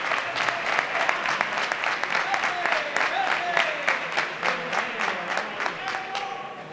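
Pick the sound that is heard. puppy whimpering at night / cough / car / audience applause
audience applause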